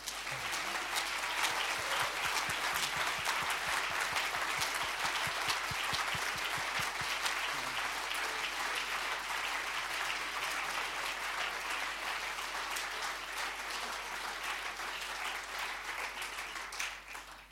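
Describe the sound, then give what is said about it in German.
Sustained applause from a church audience in Altenstadt, a dense, steady patter of many hands clapping that holds at an even level for over fifteen seconds before starting to taper off at the very end. “Ich glaube, wir sollten noch einmal einen Applaus machen, und zwar dem Himmel, dass er diese Leute uns hier in Altenstadt geschenkt hat.”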